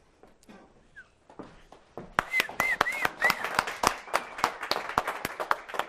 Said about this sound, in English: The applause is for Gene Tinder for the great editing work.